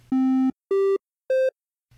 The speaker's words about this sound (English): they just did something called a triangle wave